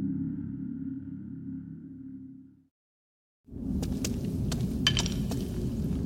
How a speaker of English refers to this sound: Try not to kick the bones. Sorry, I cannot see where I'm going well enough to avoid them.